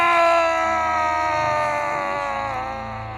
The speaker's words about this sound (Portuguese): E aquela horda de mortos partiu para cima do incrédulo prefeito recém-eleito, agarrando-o com suas mãos podres e esqueléticas. O coronel inutilmente gritava de pavor.